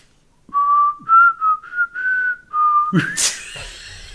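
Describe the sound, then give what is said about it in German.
A person whistles a short melody of several sustained, sliding notes, clear, that breaks off into a burst of breathy noise and a brief rustle at the end. “Was wie anstrengend es ist zu pfeifen.”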